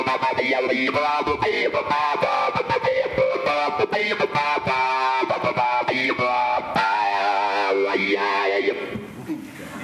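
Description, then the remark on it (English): A distorted electric guitar plays a busy, gritty riff with rapid choppy bursts and swept, filtered tone shifts made by tapping resistive touch strips on the guitar body assigned to filter and volume, loud, fading slightly at the end. “It's cooler with distortion.”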